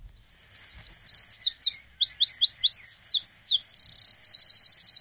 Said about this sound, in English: In our series of common and garden birds, we turn to the wren today, one of Ireland's smallest birds. Angus Kennedy of Nature Northwest is here. And Angus, let's first have a listen to the wren.